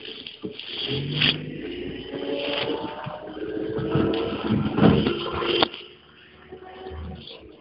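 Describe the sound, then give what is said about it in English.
A steady rumble of a car moving through traffic, with shifting engine hum and muffled road noise that swells and fades before quieting near the end. “Okay, and driving through traffic, I forgot completely where I'm going with this.”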